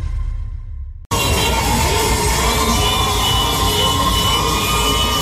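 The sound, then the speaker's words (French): A large crowd of residents in Tehran shouts and cheers with joy after the announcement of the death of Ayatollah Ali Khamenei, a loud, dense, unbroken roar of many voices, starting suddenly after a second of low rumble and a brief silent gap. “Ce que vous entendez là à l'antenne, ce sont les cris de joie ce week-end à Téhéran, des habitants qui se réunissaient spontanément après l'annonce de la mort de l'ayatollah Ali Khamenei.”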